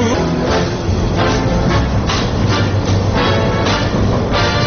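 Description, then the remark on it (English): A Chicago Transit Authority elevated commuter train rumbles steadily along elevated tracks toward Chicago's downtown Loop, heard from inside, with a dense low-frequency roar and rhythmic bursts of clatter and screech from the rails. “We're aboard a Chicago Transit Authority elevated train heading for Chicago's downtown center, known as the Loop.”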